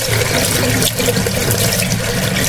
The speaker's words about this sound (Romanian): N-ați vrea să dați puțin drumul la robinet? Cu plăcere. Când aud apa, mă liniștesc.